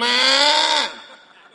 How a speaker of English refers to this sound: He said, what about this sheep that I'm bleating here? Blah, blah. What is the use of the sheep?